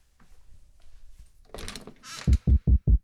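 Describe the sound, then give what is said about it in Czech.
A doorbell rings in four short, evenly spaced, loud pulses near the end, after a brief rustling clatter, with no talking. “Sotva se posadil do křesla, aby si v klidu pročetl poslední sportovní výsledky, ozval se zvonek u dveří.”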